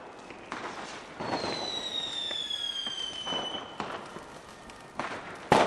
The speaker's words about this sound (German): Die Raketen zischten nach oben in den nachtdunklen Himmel. Alle schauten hin, staunten und riefen, oh, das sieht so toll aus.